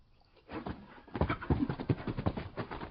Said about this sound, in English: Whoa, steady boy! Whoa, steady boy! The horses do not seem to like this place. Steady, boy, steady.